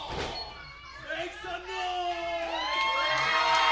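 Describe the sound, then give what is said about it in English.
A large crowd at a wrestling match roars and cheers wildly as a wrestler lands a flurry of punches on Dwight Kidd, with high-pitched shouts and whoops rising over a continuous, swelling wall of noise that grows louder toward the end. “Crowd is going wild.”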